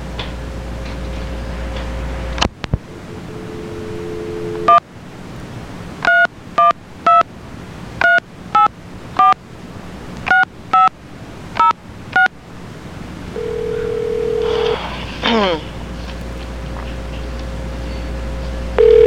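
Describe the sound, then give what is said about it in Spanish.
A steady dial tone gives way to a quick series of touch-tone beeps as a number is keyed in to call Chicago, followed by a brief tone and line noise, with no one speaking. “Espérese para que usted, para llamar a Chicago para que hable con José Antonio”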